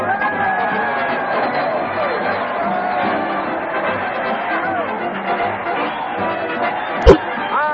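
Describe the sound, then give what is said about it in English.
A large crowd cheers and shouts for Fred Allen as he leads his weekly parade to the old town hall on the radio show Town Hall Tonight, in a steady, dense roar of many overlapping voices that holds throughout, broken near the end by one sharp, loud thump. “Crowd cheer Fred Allen as he heads his weekly parade to the old town hall.”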